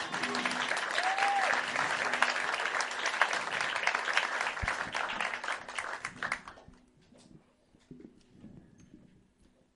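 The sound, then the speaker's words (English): A crowd claps hands in a dense, loud burst of applause for about six seconds, then the clapping quickly dies away to quiet murmuring. “And let's just clap our hands”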